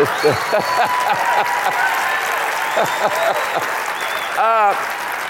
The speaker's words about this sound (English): But that was the wimpiest applause I've ever had. I want to tell you that.